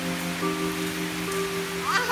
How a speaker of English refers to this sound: More? You want more rain?